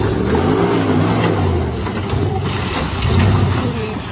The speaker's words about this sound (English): They depict customized Jeeps, Toyotas, and Broncos spinning their oversized tires in the mud, scaling stumps, or driving down creek beds.